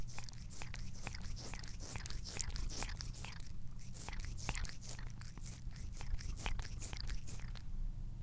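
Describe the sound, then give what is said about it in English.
A pet cat named Pippa licking fingers: a quick, uneven run of wet, clicky smacks and rasps repeating for several seconds over a steady low hum, with no talking. “Pippa's now has to lick my fingers.”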